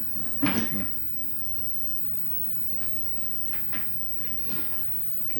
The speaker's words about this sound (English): Could you open the door? Yeah, sure.